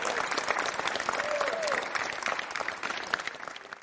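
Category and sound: crowd, audience applause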